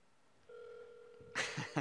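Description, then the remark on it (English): A telephone call connecting: a steady electronic phone tone holds for about a second, then cuts off into a few short, crackly bursts of line noise. “This is our first live call from phone call.”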